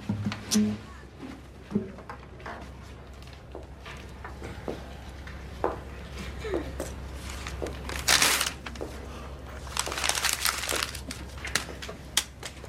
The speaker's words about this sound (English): Ow! It's paper, princess.